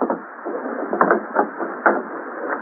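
An arrow with a piece of paper hanging from its shaft strikes a wooden door with a sharp, hollow thunk, a single brief impact standing out over a steady, muffled band of background noise with a few softer knocks.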